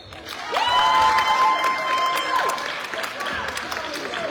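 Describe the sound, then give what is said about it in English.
Wolverine basketball fans cheer and clap for number 21 in a loud, sustained crowd roar, with a few high sustained whoops and whistles rising above the noise before it settles into steady applause. “Some Wolverine fans cheering for number 21.”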